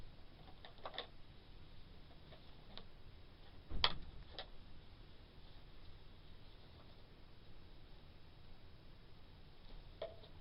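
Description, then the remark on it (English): A clock ticks quietly and steadily with faint clicks, with one louder knock partway through. No one speaks. “Oh, you found a key. And a clock.”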